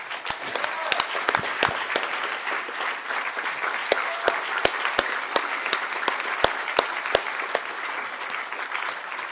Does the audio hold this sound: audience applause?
yes